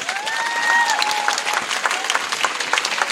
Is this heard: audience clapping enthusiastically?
yes